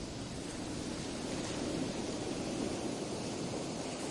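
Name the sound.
rain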